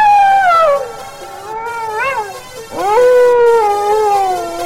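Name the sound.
dog howling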